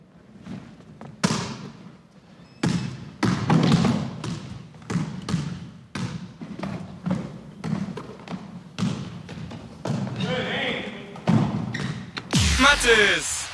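A basketball bounces repeatedly on a hard indoor floor in a steady dribbling rhythm, with sneakers squeaking sharply in between and a busy, echoing gym ambience behind.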